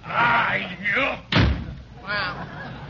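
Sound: door slamming shut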